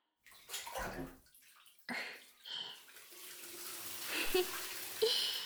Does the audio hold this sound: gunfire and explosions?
no